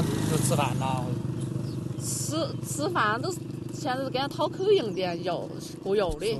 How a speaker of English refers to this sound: As we talk, trucks and buses drive by carrying other villagers out and away to areas not flattened.